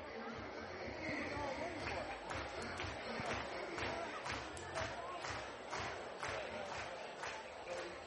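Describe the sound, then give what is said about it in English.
Steady roar of a large baseball stadium crowd, a dense wash of chatter and cheering, with scattered sharp claps or shouts popping out throughout the eight seconds, as a 2-1 pitch is thrown during a baseball game. “Great crowd on hand as the 2-1 pitch on its way.”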